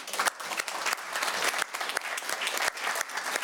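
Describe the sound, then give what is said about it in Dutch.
An audience in a hall claps steadily, a dense continuous patter of many hands, sustained without pause and with no voices on top, applauding the person who made the event possible. “Maar er is één iemand, en daar wil ik even een applaus voor.”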